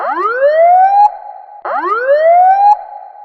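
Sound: police car siren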